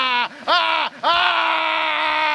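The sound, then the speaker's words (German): A man screams loudly as he goes down a steep slide lying on his back with arms crossed over his chest: two short, strained cries followed by a long, sustained wail that holds steady at a high pitch. “Er schaute senkrecht die steile Rutsche runter und dann fing er an zu schreien.”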